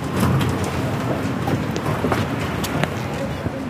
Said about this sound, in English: Bern's Bahnhofplatz, the square in front of the main train station, is one of the busiest and noisiest places in the capital.